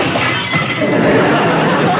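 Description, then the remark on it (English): A glass-shattering sound effect: glass shatters loudly, a dense burst of crashing and tinkling fragments that keeps going for a couple of seconds with no pause. “Then, a rustling of paper and a shattering of glass.”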